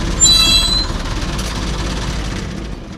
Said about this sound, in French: Là, on est dans un camion militaire qui date de quelle année? Il est de 1957. Je l'utilise pour déplacer mes tracteurs agricoles de collection.